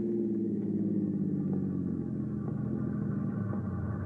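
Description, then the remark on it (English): A steady, deep rumble of the distant 704 train, heard near a train crossing on the outskirts of town, rolls on without a break, low and droning with a faint mechanical hum layered over it. “As you near the train crossing, you hear it in the distance.”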